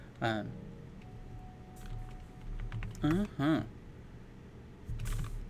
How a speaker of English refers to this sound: All right. Well, let's not type. Sorry, my microphone picks up the typing. I changed keyboards just because of that, but whatever.